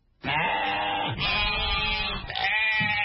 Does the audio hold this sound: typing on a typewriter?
no